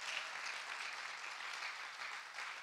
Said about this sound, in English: Can you give them a hand clap of appreciation? Amen.